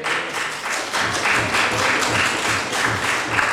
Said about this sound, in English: I would ask all members to welcome that and applaud it.